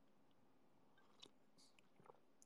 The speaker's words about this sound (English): I'll try to drink responsibly, and sip louder. I don't know if I'll do that, but I won't mute.